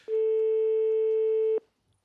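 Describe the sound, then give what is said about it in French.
A single long ringback tone from a live call to a young man's mobile phone, a steady loud beep held for about a second and a half before cutting off into silence. No one speaks. “Je veux bien qu'on essaie en direct le portable de ce jeune homme-là en question.”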